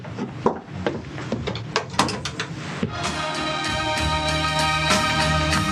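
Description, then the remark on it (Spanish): A wooden door is handled and shut, with a cluster of sharp knocks and rattling clatter, followed by a steady ringing, humming tone that takes over and holds. “Entra y cierra.”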